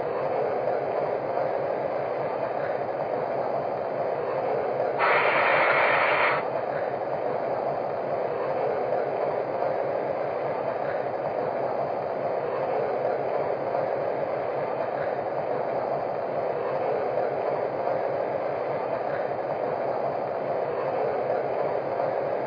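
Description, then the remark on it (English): A passenger train, train number 1 departing for Ogden on track 1, idles at a station platform with a steady, dense rumble, broken once early on by a short hiss of released air, then the drone continues unchanged. “Now departing for Ogden on track 1. Train number 1.”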